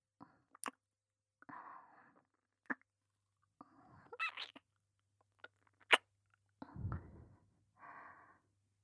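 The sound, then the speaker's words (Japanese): Soft, warm exhalations breathed into the listener's ear, several short puffs with pauses between them, mixed with small wet mouth clicks. No talking. “温かい吐息と柔らかい唇、いっぱい堪能して。”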